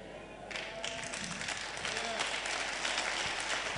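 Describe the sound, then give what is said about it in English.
An audience breaks into clapping during a sermon after a brief moment, building into a dense, steady wash of applause that holds at a fairly loud level to the end, with faint voices mixed underneath. “I'm preaching better than you're clapping. You better clap better so I preach better.”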